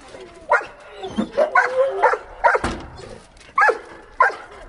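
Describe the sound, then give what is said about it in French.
A rescue dog barks in short, sharp bursts, about seven or eight yips spaced irregularly, mixed with whiny high-pitched whimpers, lively as it wants to play. “Lui, il veut, c'est jouer. Il veut jouer.”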